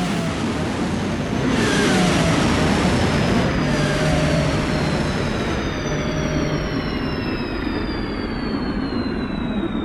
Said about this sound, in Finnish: Kuuluu vain vaimenevien turbiinien hiljaista ulinaa, kunnes sekin katoaa. Boeing 747 on nyt liitokone.